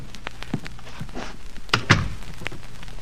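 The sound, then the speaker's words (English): A few soft knocks and shuffling thuds lead into a heavier, solid thunk as a door is pushed shut, followed by another faint tap. No one speaks. “Close the door.”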